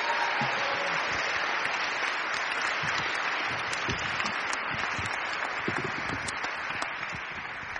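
A crowd applauds steadily for several seconds, a dense wash of many hands clapping at once, sustained and fairly loud with no voices on top.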